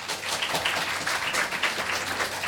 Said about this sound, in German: Also, wir brauchen jetzt einen Applaus.